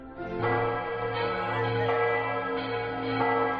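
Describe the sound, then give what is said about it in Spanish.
Large bells of the Cathedral of Sigüenza, in the centre of Sigüenza, ring out in a steady, overlapping peal, their deep hum and bright harmonics sustaining throughout with fresh strikes every second or so, no voices present. “Es el toque de campanas de la Catedral de Sigüenza.”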